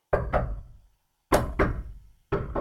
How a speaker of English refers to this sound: someone outside is knocking on that door